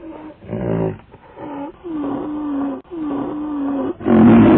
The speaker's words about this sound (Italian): D'improvviso Kammamuri. Udì il miagolio della tigre.